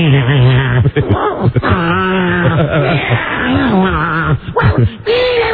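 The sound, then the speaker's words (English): A person imitates their small pet dog's complaining whine, the sound he makes when not getting his own way, a sustained, wavering, nasal moan that rises and falls in pitch across several breathy phrases with brief pauses between them. “It was the sound that he makes when he's not getting his own way.”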